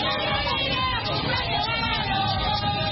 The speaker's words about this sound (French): C'est un retour bien remarqué au sud Kivu du docteur Denis Mukwege. Déjà à l'aéroport de Kavumu en territoire de Kabari où son avion atterrit, des centaines de hommes et femmes ont fait les déplacements pour son accueil.